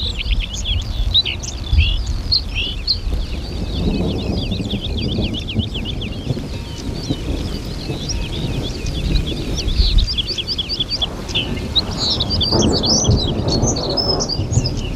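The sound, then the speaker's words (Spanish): High-mountain grassland birds, including a peche azul and an avispita, sing continuously in a bright chorus of repeated high chirps and trills beside the Valle del Silencio, Spain, while the deep rumble of a storm that brought no rain rolls underneath throughout. “donde están cantando las aves de los pastizales a altura. Un peche azul, una avispita, pájaros”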